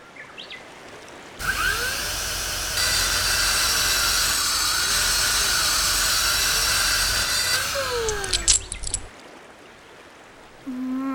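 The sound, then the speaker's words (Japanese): A drill, used in an attempt to repair an omamori charm, whirs loudly and steadily for about seven seconds, a high mechanical whine over a hissing roar, then its pitch shifts briefly before it cuts off into quiet background noise. “お守りってドリルじゃ直せないかなって思ってたし。”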